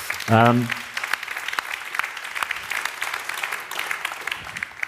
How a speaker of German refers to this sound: Ich glaube, das ist auch ein Applaus wert.